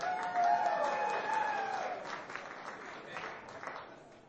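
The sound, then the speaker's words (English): An audience applauds with a dense, steady patter of clapping. Some high cheering voices ride over it at the start, and the applause eases off slightly toward the end. “Yeah, now you can clap yourself if you want.”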